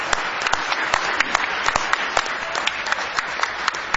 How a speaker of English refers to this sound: Isn't it good to be in church this morning? Do you love the Lord with all your heart? Give Him one big hand clap of praise this morning.